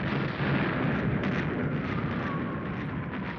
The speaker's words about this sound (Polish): zapłonęło na dole w dolinie i rozległ się uciskający uszy ryk, syk, bulgot, wycie i łoskot. Wcisnąłem się do małej wnęki. Odłamki warcząc przelatywały nade mną. Kamienie i kawałki ziemi latały górą. Ziemia drżała pod siłą wybuchów.